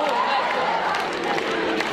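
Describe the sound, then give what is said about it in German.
A huge crowd of mostly young climate protesters sings and chants 'Rettet das Klima' (save the climate) in unison, about ten thousand voices blending into a dense, steady roar with a slightly ragged, uneven pitch and no single voice standing out. “Die Töne sitzen noch nicht so ganz, aber die Botschaft ist klar und sie wird 10.000-fach gesungen.”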